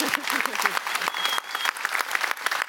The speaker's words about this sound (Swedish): Och i den här lokalen, i denna brölsamling som ser ut som en VSK-match på borta, så sitter det alltså våra högsta chefer, så kan ni ge en applåd så vi får förlängt kontrakt.